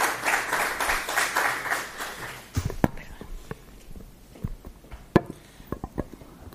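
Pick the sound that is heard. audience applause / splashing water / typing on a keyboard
audience applause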